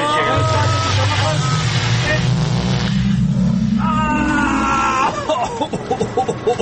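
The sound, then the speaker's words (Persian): A loud time-machine travel effect: a dense, warbling sci-fi roar with a low tone that climbs steadily in pitch, then breaks into wavering electronic tones that flutter and fade out. “هوا پس من زحمتو کم میکنم، بریم ماشین زمان جان که خیلی شده بزن بریم.”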